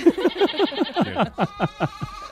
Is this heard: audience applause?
no